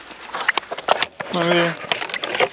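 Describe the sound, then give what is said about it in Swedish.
Ice on a pond about 840 metres around cracks sharply under repeated kicks and stamping, a run of crisp snapping clicks and thumps, with a person's voice briefly speaking midway through. “När du sparkar då går det upp sprickor.”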